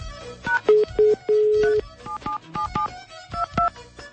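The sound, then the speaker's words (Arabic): Telephone dialing and ringing tones as a radio show calls a listener: a quick series of short electronic beeps with a few longer, steady mid-pitched tones, fairly loud, with no one talking. “خلينا نتصل بالسيد ساير العبيدي.”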